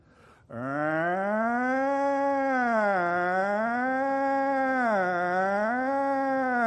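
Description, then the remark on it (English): A voice imitates a police siren: one loud, unbroken wail that starts abruptly and rises and falls in pitch in slow, repeated sweeps for about six seconds, sounding somewhat like a howl. “I can't remember specific instances, but I'm sure that if we were hanging out and playing cops and robbers, one of us would have to be the cop and have a siren, right? So here goes. This is my siren.”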